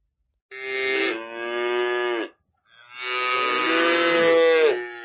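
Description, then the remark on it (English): Two long, loud moos from a cow at a farm where animals are sold for Qurbani, each a drawn-out harmonic call lasting about two seconds, separated by a brief pause, with no talking. “From his right, he could hear the cows mooing.”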